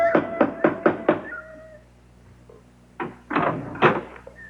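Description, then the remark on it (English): A big brass knocker on a house's front door raps five times in quick, even succession, loud with a slight metallic ring, then a pause before brief voice-like sounds. “There was a big brass knocker on the front door.”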